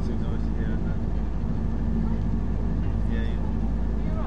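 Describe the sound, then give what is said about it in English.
A boat engine runs steadily, heard from aboard the boat with a window open: a loud, continuous low rumble with a humming drone. It doesn't change over the whole stretch, and faint voices murmur beneath it. “Or do you think the engine would drown it out anyway?”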